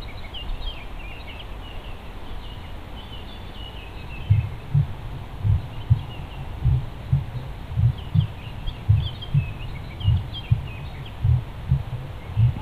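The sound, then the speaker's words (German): A steady, muffled heartbeat thumps in low double beats, starting a few seconds in and continuing evenly, while faint birdsong chirps softly in the background. “Hörst du seinen Herzschlag?”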